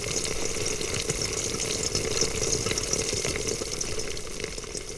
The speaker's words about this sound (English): Or the German rain bombarding your helmet.